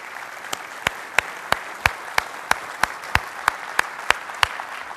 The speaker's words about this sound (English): But I want to just, you know, take my, you know, the proverbial hat off to all of you mothers here today, and for all the work that you do. You deserve great praise. Let's give all of our moms a round of applause, shall we?